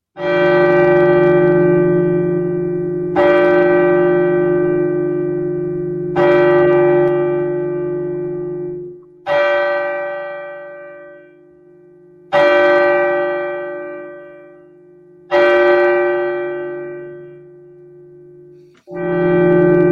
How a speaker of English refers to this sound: And then the bell struck 12.